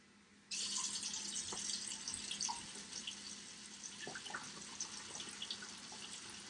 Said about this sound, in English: Now I'm going to add my 3 cups of water.